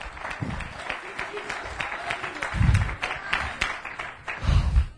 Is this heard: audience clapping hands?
yes